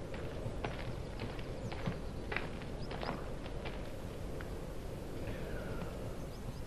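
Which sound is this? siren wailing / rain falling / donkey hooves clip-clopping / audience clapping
donkey hooves clip-clopping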